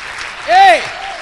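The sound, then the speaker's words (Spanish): An audience applauds steadily for God, a dense wash of clapping throughout, while a single rising-and-falling voiced shout or cheer cuts through briefly in the middle. “Dale un fuerte aplauso a ese Dios poderoso.”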